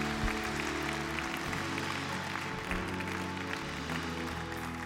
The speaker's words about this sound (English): Let's give the Lord a clap of praise. Can we just put our hands together? We're applauding Him.